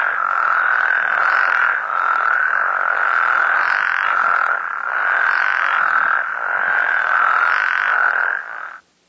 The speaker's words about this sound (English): Well, this is a spectrogram which shows the chorusing of frogs in a healthy way. This is what they sound like.